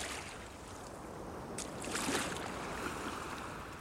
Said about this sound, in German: Schneller, so rudern Sie doch schneller. Das geht nicht schneller. Der Wind bläst uns entgegen.